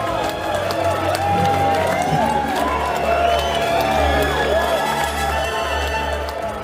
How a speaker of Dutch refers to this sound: En Grutuze had gelijk, want het volk applaudisseert. Uit alle monden, honderden, duizenden, tegelijkertijd klinkt het willen komen, willen komen.